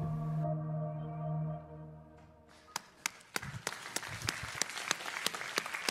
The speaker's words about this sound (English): Just want to clap for Nathan there.